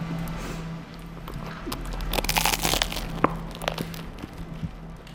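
Someone bites into half a bun spread with margarine, a cluster of soft, crackly crunching and chewing noises peaking midway, over a steady low hum with no talking.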